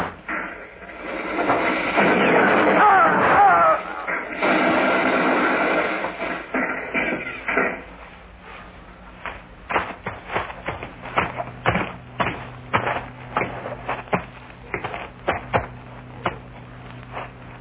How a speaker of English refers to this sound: We fired a lot of shots that way. I think we hit them all.